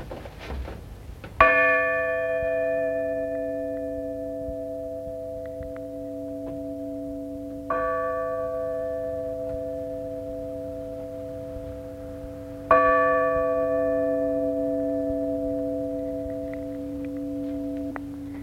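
A smaller bell, rung after a massive one, is struck three times at uneven intervals, each strike ringing out with a bright metallic tone and a long, steady sustain that overlaps into the next. No one speaks.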